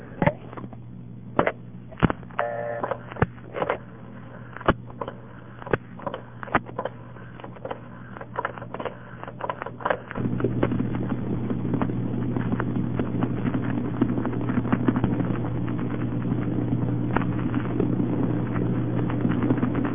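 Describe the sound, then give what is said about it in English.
Telephone trunk signaling over a narrow phone line while dialing a home number in Seattle: a series of sharp, loud thumps at irregular intervals, each a multifrequency digit sent out to the toll tandem, with a brief burst of multifrequency tones, then a steady buzzing line hum takes over. “Then you'll hear a series of loud thumps. Each one of those loud thumps corresponds to a multi-freak digit being sent out”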